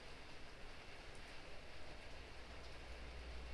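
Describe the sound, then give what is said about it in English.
Steady rain falls on hard surfaces, a dense, even hiss with a soft low rumble underneath, continuous and fairly quiet throughout, with no voices. “Whatever it is, this rain has brought change. This rain is clean and nourishing to all the life that it's feeding right now.”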